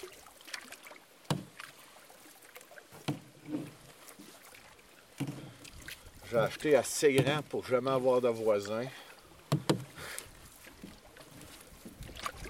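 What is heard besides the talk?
river rapids rushing water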